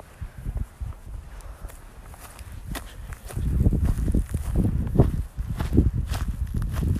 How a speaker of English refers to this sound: As you can hear, I'm walking in the grass right now. Sounds beautiful. Hear the crunch, crunch, crunch.